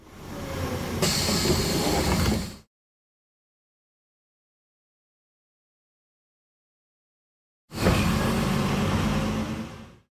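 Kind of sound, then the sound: vehicle, bus arriving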